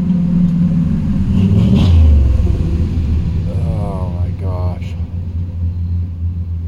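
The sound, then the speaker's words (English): A loud car engine revs up with a deep rising roar, then settles into a steady heavy rumble that runs throughout, with a brief muffled voice partway through. “My car makes a lot of noise.”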